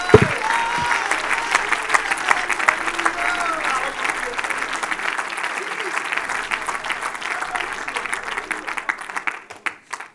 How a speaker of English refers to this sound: Would you clap your hands one more time and give Jesus praise?